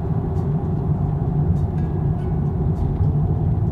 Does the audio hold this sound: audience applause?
no